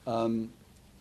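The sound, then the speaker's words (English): A cell phone ringing: one short, steady electronic ring-tone note about half a second long, clear, then quiet with no talking. “Please shut your cell phone.”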